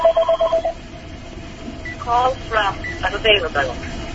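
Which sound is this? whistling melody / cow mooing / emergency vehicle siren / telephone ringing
telephone ringing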